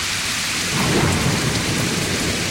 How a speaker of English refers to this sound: And you know, while we're at it, we might as well add a little thunder to that rain, shall we?